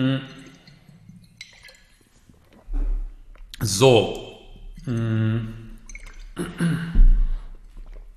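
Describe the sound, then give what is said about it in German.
Sipping and swallowing of water, with soft wet gulps and a light knock of a cup, followed by a short spoken word. “Und ich nehme schnell einen Schluck Wasser, weil sich sonst mein Hals verabschiedet.”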